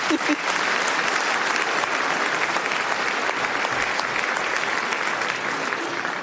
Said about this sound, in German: bitte, können Sie gern klatschen.